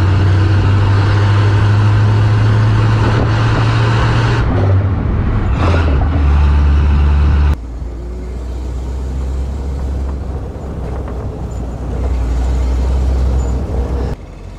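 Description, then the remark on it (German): A powerful car engine roars under load in second gear, rated 155 hp naturally aspirated with the supercharger not engaged, a deep, steady rumble that climbs, shifts and settles, loud throughout with no talking. “Also man hört diese wahnsinnig kraftvolle Maschine.”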